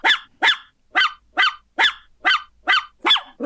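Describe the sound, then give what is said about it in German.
A dog barks eight times in a quick, steady rhythm, each bark loud and sharp, with short silent gaps between them and no talking. “Sendung mit dem Hund.”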